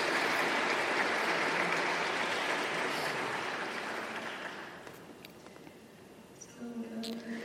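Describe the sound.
A crowd applauds steadily for several seconds, the dense clapping gradually thinning and fading out before a single voice starts speaking near the end.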